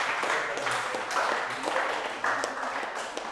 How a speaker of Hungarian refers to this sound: Nagy tapsot nekik. Ügyesek voltak.